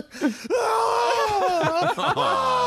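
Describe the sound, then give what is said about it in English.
A person screams loudly, a long, high, wavering cry that holds for about two seconds after a short vocal sound at the start, with no talking. “Why are you screaming?”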